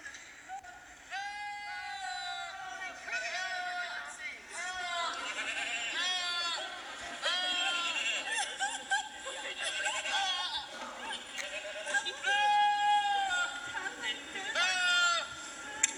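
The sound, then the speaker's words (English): A rapid series of loud goat bleats, wavering and strikingly human-like, almost like people yelling, overlapping one another almost continuously for the whole stretch. “sent me a blog entitled Screaming Goats”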